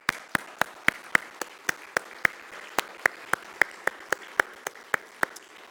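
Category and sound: crowd, audience round of applause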